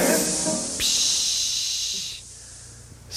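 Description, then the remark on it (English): A 'Good Air' aerosol air freshener, a spray that fights household odors, spraying in bright, steady hissing bursts, one rough blast then a longer smooth spray, fading quieter before a short fresh spurt starts right at the end. “Get good air, good air, good, good, good air to spray with the delicate air.”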